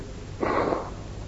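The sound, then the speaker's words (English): A single short, breathy nose blow lasting about half a second, close to the microphone and fairly loud, with a soft low hum underneath before and after. “Told not to blow my nose into the mic”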